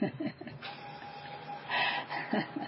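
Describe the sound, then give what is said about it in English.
A printer runs steadily, printing tickets to China, its mechanical whirring and buzzing broken by rhythmic feed clunks and surges as paper passes through, with a faint tonal hum underneath. “when the printer quits making that noise, I'll play a song”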